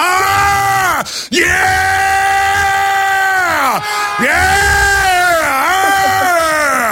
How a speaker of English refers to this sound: I want to hear that in a minute, but I want to hear your war growl. Everybody, let's hear your war growl. Everybody across it. I want to hear the studio.